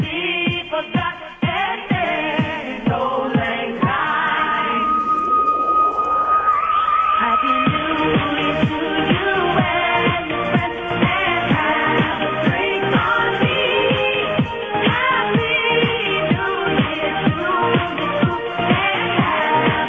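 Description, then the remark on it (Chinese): Upbeat year-end festive music plays over a thin, phone-quality line as a ringback tone while a phone call is placed, with a steady driving beat, a rising sweep early on, and bright festive melody filling the whole stretch without any talking. “大家铃声都好有岁末年终之 feel。”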